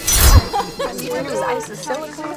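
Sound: glasses clinking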